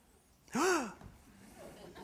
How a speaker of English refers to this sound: I was hoping for gasps. That's all right. I think I heard one.